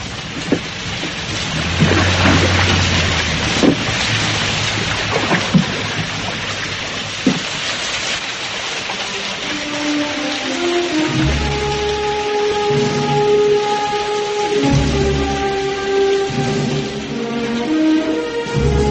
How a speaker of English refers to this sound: And it started to rain.